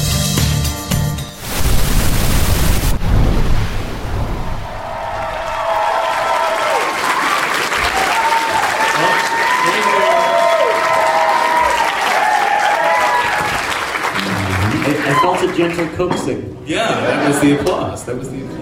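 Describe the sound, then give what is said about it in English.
An audience bursts into loud, dense applause that rolls on steadily for several seconds, with voices rising over the clapping and the crowd noise gradually thinning toward the end. “Yeah, that was the applause.”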